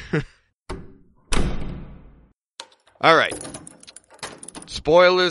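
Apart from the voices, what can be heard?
door being locked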